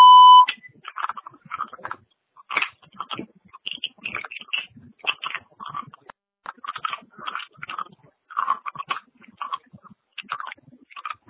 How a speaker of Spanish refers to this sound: No puede contestar su llamada ahora. Usted puede dejar un mensaje después del tono. Marque la tecla gato cuando termine.